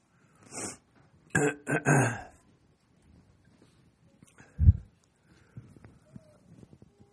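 A short run of harsh coughs in quick succession, then a pause and a low, gruff throat-clearing, with faint rustling afterward and no talking.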